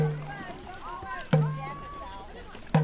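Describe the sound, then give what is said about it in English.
Dragon boat paddlers row to a steady drum at an event in Cleveland, with deep beats landing roughly every second and a half while voices call out over the splash and hum of the water; 20 paddlers sit in rows of two in a 47-foot boat with a dragon head and tail, one person steering, another drumming. “At a recent event in Cleveland, 20 paddlers sat in rows of two lining the boat, while one person steered and another set the pace on a drum.”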